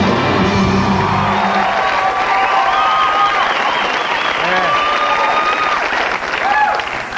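A studio audience on the Arsenio Hall Show in March 1989 cheers and applauds steadily as Macho Man Randy Savage poses and makes his way out, with loud, dense clapping and high whoops and shouts rising over it throughout, no talk on top.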